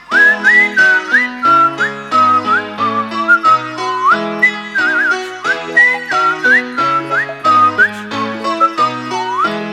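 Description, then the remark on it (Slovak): A bright whistled tune carries a lively melody over steady instrumental accompaniment, loud and close, with short phrases and quick pitch slides throughout. “V rozhlase ju budeš počuť, každý si ju zapíska.”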